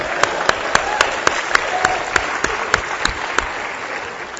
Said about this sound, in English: So I would like a big round of applause for the laser pointer guy.